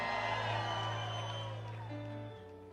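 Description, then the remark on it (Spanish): An audience gives a shout of glory to God, shouting and cheering in loud, continuous praise over a steady sustained musical tone, voices blending into a dense roar that eases slightly near the end. “¿Dónde está el pueblo gozoso de la senda que dé un grito de gloria?”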